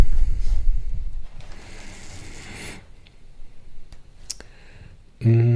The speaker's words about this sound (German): Also sehr ein tolles Buch. Ne? Wir blättern jetzt mal irgendwo rein und werden einen kleinen Absatz lesen.